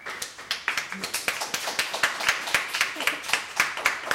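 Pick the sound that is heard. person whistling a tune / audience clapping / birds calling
audience clapping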